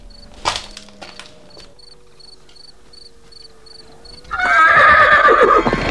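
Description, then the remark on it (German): A horse whinnies loudly near the end, after a quieter stretch where crickets chirp in a steady pulsing rhythm with a few faint knocks early on; the horses stand in a makeshift fenced enclosure beside rocks. “ging noch einmal schnell hinüber zu den Pferden, die auf der anderen Seite der Felsen in einem provisorisch umzäunten Gehege standen.”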